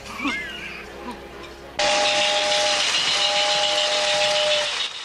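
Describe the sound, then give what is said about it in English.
A toy steam train hurries along a track and into a tunnel on a vast model railway set up in a bedroom. It bursts in with a loud, steady chuffing hiss and a sustained whistle-like tone after a quiet, murmuring start, then cuts off. “A toy steam train hurries along a track and into a tunnel on a vast model railway setup.”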